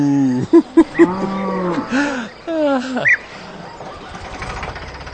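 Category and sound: animal, cow mooing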